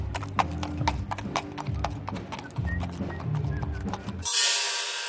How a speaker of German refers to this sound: Und auf dem weiten Zirkusgelände werden Pferde zum Aufwärmen ausgeführt.